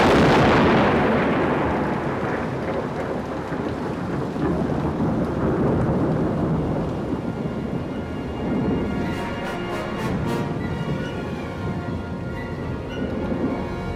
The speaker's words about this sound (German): Ein Gewitter in den Bergen ist nicht ungefährlich. Wenn es blitzt und donnert, muss man sich als Wanderer schnell in Sicherheit bringen. So ein Gewitter kann sich gewaltig und gruselig anhören.